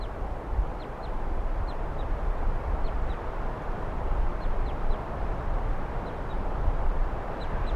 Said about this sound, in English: Here's that wild bird giving calls now. It's been giving calls for about a minute or so.